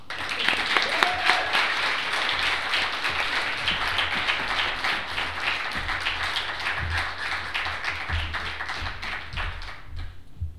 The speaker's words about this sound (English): So clap.